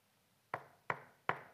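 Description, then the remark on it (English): Three firm knocks on a door, evenly spaced about a third of a second apart, each a sharp woody thud with a short decay, clear against a quiet background. “I think the welcomer's just checked whether someone's actually knocking on our door.”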